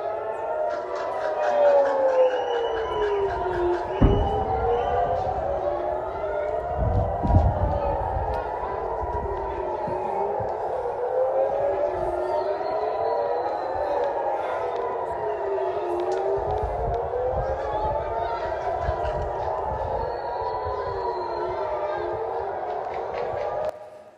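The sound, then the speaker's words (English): Several air raid warning sirens wail together in Israel during an attack by Iran, their tones rising and falling in overlapping cycles for the whole stretch, loud and steady, with a few low thuds and rumbles beneath them. “So when you hear those sirens, you're reminded of the urgency and the emergency of our times.”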